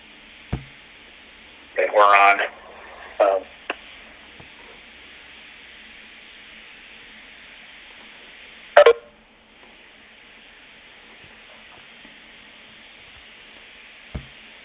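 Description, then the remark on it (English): A few short electronic beeps and tones on a conference call line as a meeting is about to start, spaced irregularly over a steady telephone hiss, with occasional faint clicks in between. “Hey folks, just waiting for the beeps to kind of die down.”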